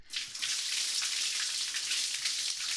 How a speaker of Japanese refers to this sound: ではお体の泡を流しますね。よいしょ。はい、流しまーす。